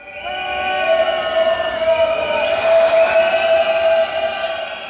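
A metro train in a Madrid metro station, a few stops from the city center, gives off loud, sustained high-pitched whining tones. The tones shift slightly in pitch over a steady rumble and hiss, with no voices.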